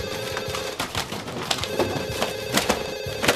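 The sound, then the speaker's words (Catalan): A telephone bell rings insistently in the control room of the radio station Ràdio Bufarull, a steady metallic trill with clattering hits, fairly loud, continuing through the whole moment with no one speaking. “Busca el telèfon amb la mirada.”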